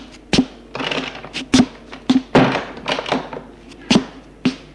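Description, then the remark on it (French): A woman closes the front door of a home: several hard, dull thunks spaced irregularly over a few seconds, with scraping, rustling noise between the knocks. “Elle ferme la porte.”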